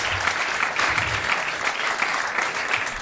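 Steady, dense applause from a group of people, a continuous crackle of many hands clapping at once, fairly loud and close, with no voices over it.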